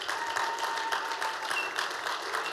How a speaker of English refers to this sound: We honor you today, mothers. Would you just give all the mothers in here a round of applause? Go ahead. That's pretty weak.